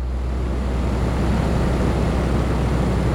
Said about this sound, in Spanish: Le pido que apague el aire acondicionado del despacho en el que nos encontramos para escucharla mejor.